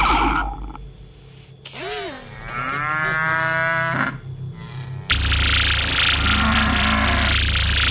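A cow lets out a couple of long, drawn-out moos that rise and waver, followed by a steady wash of loud, hissing noise that continues to the end.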